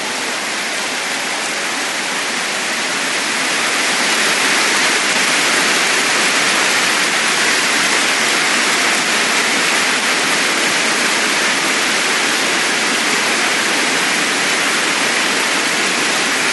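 An audience at a sermon claps together for the Almighty God in a dense, steady roar of hand claps with no speech, starting a little softer and swelling after a few seconds before holding at full strength.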